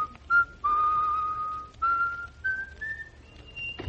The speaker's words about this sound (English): That man's always whistling.